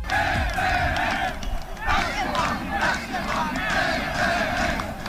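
Players and fans of the Poznań football team TPS Winogrady celebrating promotion from the inter-district league at their small stadium after a 4-1 win over Lechia Kostrzyn, with loud, continuous group shouting and chanting in rising and falling waves, rowdy and joyful throughout.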